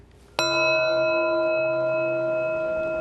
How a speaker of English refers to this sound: Talk to me about how you relate with that bell in your practice. To me, it's a way of dropping our chatter in our mind and settling down and appreciating the space of sound, allowing the vibrations to open up our sense of space